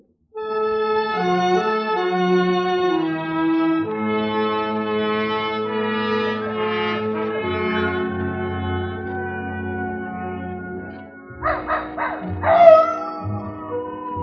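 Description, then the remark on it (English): Long, wavering howls drawn out over several seconds from coyotes up in the hills, followed near the end by a few short, sharp barks and yips from Old Nugget the dog, on a soft, warm night. “Old Nugget the dog was carrying on a long-distance conversation with his country cousins, the coyotes up in the hills.”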